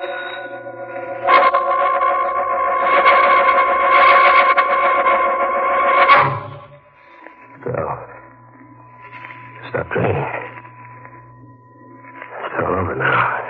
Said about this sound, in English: You'll hear that bell ringing in your mind as long as you live.